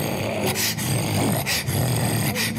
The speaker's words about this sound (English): And now the dogs come and they're barking.